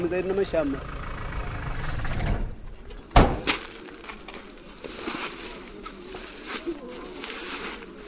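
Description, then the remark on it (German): A heavy engine rumbles and idles, its low drone shifting as a World Food Programme truck pulls up in Mozambique, with a sharp clank midway and faint voices in the background, as sacks of split peas and containers of oil are unloaded. “Ein LKW des Welternährungsprogramms fährt vor.”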